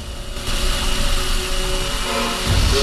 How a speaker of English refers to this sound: Fayyad aims his drill at Morris's back, coming closer and closer with the spinning point.